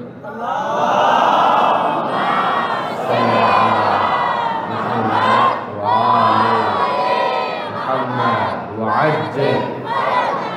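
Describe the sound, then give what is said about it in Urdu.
A large crowd loudly recites salawat on the Prophet Muhammad in unison, many voices chanting together in rising and falling phrases that swell and briefly dip, continuing steadily for about ten seconds. “ایک صلوات تو محمدی پسند ذرا بھیجے نا.”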